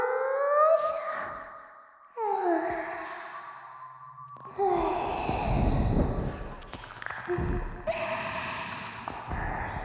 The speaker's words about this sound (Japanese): さくらに耳を舐められる。水音、唇の感触、吐息、鼓膜に響いて、頭の中を音に侵される。